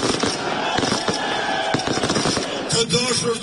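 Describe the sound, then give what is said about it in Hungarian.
Fireworks crackle and bang in rapid, overlapping bursts as Albin Kurti's party celebrates its parliamentary election victory on election night, a dense continuous barrage of pops and booms with a busy crowd-like roar underneath throughout. “Albin Kurti pártja a választások éjszakáján ennek ellenére tűzijátékkal ünnepelte a győzelmet.”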